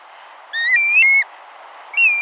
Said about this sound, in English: Listen to one shorebird that breeds in the Arctic, the black-bellied plover. As you listen, imagine a bird with a dramatic black face, neck, and belly, a stark white head, and a speckled back.